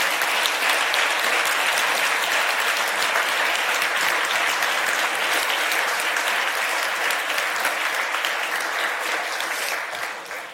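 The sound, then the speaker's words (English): An audience applauds the event organizers and AV team, a dense crackle of many hands clapping at once, loud and sustained for about ten seconds before it begins to taper off at the end. “Please turn around and clap for them as well.”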